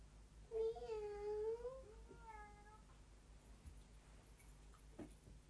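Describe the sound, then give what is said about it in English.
A cat lets out a long, drawn-out meow, followed quickly by a shorter, softer one, then quiet with a few faint clicks toward the end. “He's cheeky, that cat, isn't he?”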